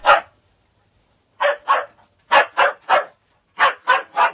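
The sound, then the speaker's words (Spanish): A dog barks sharply, one bark followed by a pause, then three groups of two or three quick barks, loud with silence between bursts. “El lío surgió en torno a un perro.”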